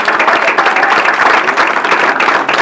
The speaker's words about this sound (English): So let's give her another applause for Mary.